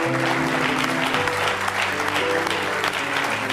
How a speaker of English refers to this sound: Now give your winner a big hand clap of praise this morning.